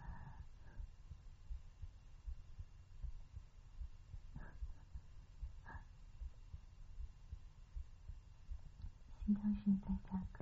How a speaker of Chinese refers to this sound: 晚上你们一说脏话，我觉得我的心跳在加快。谢谢周围的酒店朋友圈，对我的心跳在加快。